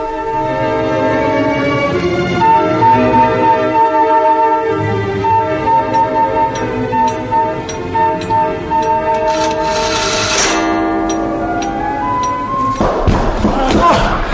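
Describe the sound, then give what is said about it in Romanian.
A door being broken down: heavy thuds and a loud crashing burst near the end, over a dense, steady droning background, with muffled voices mixed in. “Cum îndrăzniți să-mi spargeți ușa?”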